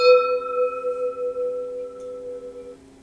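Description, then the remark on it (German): A single strike on a gong, its bright metallic tone ringing out clearly and slowly fading over about three seconds, with no voices; the gong is struck as the signal to start drinking during a tasting. “Ja, bitte, komm, wir gongen zum Trinken.”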